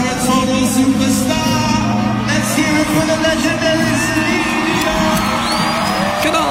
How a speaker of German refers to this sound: Entsprechend gab es großen Jubel und Freude, dass sie da war.